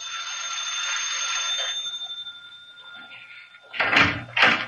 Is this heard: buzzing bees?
no